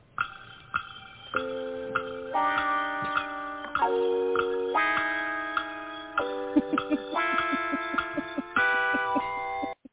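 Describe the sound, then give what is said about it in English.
A steady clock-like ticking runs under a sustained electronic tune that steps up and down in pitch, giving a tense countdown feel. It is moderately loud, with no voices. “And if you are out there tonight and if you are listening to us and you are getting a little busy, I'm going to help you out, because if you're a clock watcher, I'm just going to do this to you.”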